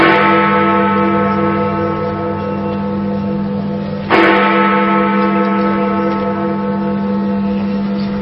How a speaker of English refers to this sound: The famous bell at the British Houses of Parliament, Big Ben, has chimed for 3 minutes non-stop as part of a nationwide bell ringing in the build-up to the opening ceremony at the Olympic Stadium in East London.